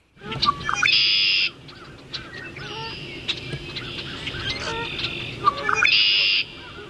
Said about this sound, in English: Some honking in the background, but the primary bird, I think, was the red-winged blackbird.